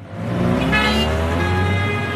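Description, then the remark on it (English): Steady, dense roar of city traffic on the winding, car-choked streets of La Paz in the Andes, with car horns honking over the engine rumble, one sustained blast standing out near the middle. “along the winding, car-choked streets of La Paz.”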